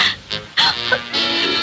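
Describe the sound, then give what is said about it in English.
A woman's labored, wheezing breaths: a run of rough, airy gasps and strained exhales following one another unevenly, with no talking over them. “She's having trouble breathing.”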